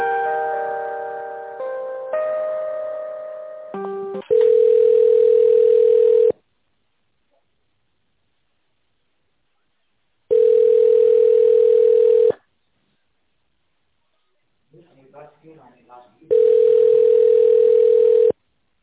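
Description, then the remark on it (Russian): A phone line's ringback tone while a company transfers a call: a steady electronic purr sounding three times, each about two seconds long with quiet gaps between, preceded by a brief run of beeping dial tones. “Секунду, уточнить. соединяю вас.”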